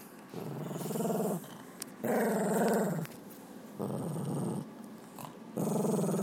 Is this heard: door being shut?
no